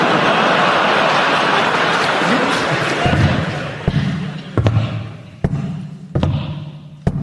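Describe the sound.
Heavy wooden footsteps thump at a steady limping pace, about five knocks, a dolphin's impression of a man with a wooden leg, following a few seconds of rushing, splashy background noise with no talking.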